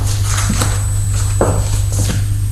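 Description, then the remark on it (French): A fist pounds a wall in a handful of dull, irregular thumps, with a steady low hum running underneath throughout. “Du poing sur le mur, mais ça ne sert à rien.”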